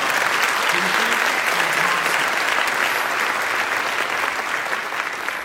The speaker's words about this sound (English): And since this is being recorded, please clap one more time